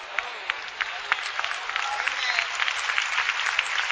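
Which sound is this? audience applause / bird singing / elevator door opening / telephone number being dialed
audience applause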